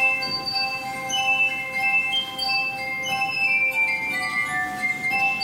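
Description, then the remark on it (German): Glass music from a Harztheater stage production of Der zerbrochene Krug in Quedlinburg rings out in sustained, shimmering tones, several clear high pitches overlapping and slowly shifting at a steady moderate loudness, with no voices. “Eine feine, dank gläserner Musik auch immer sehr durchsichtige Inszenierung ist am Harztheater entstanden, die dabei aber immer auch kraftvoll zur Sache geht”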